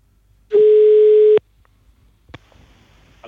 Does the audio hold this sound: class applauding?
no